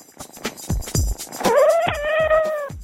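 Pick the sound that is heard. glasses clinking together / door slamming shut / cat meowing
cat meowing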